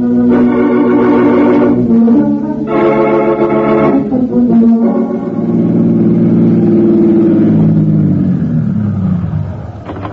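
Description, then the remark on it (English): Loud New York City traffic as a car drives through, with a steady engine drone and repeated blaring horn blasts, two long honks early on, then a sustained tone that slowly fades near the end. No one speaks. “You made nice time through this New York traffic”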